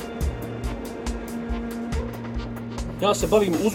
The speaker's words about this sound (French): Nous buvons un café en regardant cette immense carrière où vont et viennent les camions d'Adriatic Metals.